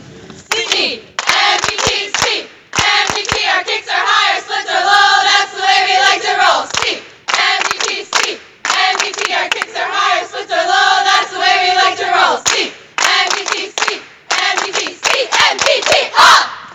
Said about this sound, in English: And now we're going to do a cheer. They're going to do a cheer for us here on the radio. And whenever you guys are ready, go ahead.